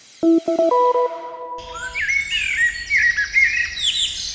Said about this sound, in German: Kennen Sie das auch, wenn ich vor dem Haus Vögel singen höre oder ein Eichhörnchen beobachten kann, das gerade einen Baum hochklettert, dann freue ich mich richtig.